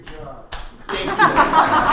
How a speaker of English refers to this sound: Great job. Thank you. I do deserve that. That gets a clap. I do appreciate that.